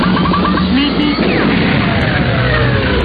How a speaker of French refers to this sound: Classe, quel générique. Ah bah, vous mettez vraiment les petits génériques dans les grands ce soir.